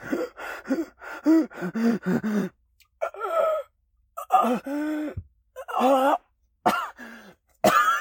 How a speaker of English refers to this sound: I frantically looked up at …, still coughing nonstop